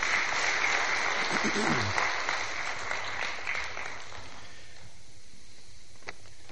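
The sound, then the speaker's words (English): A church crowd applauds to welcome a guest preacher, with dense, steady clapping that holds strong for several seconds, then thins out and fades to a faint hush by the end. “He's going to break open God's Word for us, so I ask that you would welcome him.”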